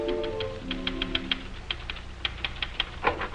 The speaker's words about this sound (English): I return you now to Dr. Christian's office, where Judy is busily pounding the typewriter.